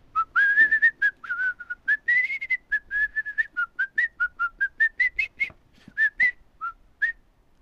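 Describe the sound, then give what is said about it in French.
A person whistles a bird-like song: a quick run of short, chirpy notes around a steady high pitch, with brief pauses and a few rising trills, clear and alone without talk. “Chante la chanson d'un oiseau.”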